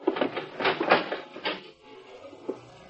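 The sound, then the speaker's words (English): A sci-fi door opens with a rapid run of whirring, ratcheting mechanical bursts, then settles into a quieter steady electronic hum, broken by one small click near the end. “Earthman, you will open that door.”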